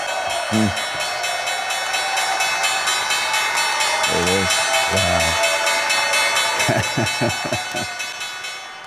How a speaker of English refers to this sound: President-elect Donald Trump appearing at the New York Stock Exchange this morning to ring the opening bell.